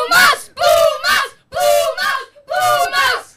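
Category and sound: crowd, crowd shouting and cheering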